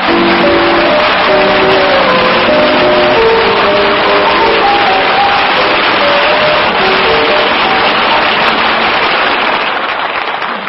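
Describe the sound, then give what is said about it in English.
A large audience applauds steadily for about ten seconds, welcoming Lieutenant Commander Eddie Duchin back safe and sound. The clapping is a dense, even patter that stays loud throughout, with no talking over it. “Our audience just told you that with their applause.”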